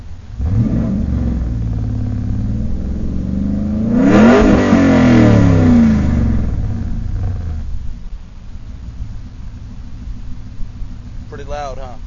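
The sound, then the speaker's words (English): Inside a car with the windows open, the engine rumbles loudly with wind and road noise, then revs hard into a rising roar midway before settling back to a steady drone. A voice briefly speaks near the end. “This is what my car sounds like with the windows open.”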